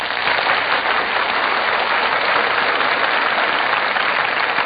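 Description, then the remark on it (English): A large theater audience at the Gulf Theater breaks into loud, sustained applause as the cast enters the stage, a dense crackling wash of many hands clapping at once that holds steady throughout with no voices heard. “The audience greets them with a tremendous burst of applause.”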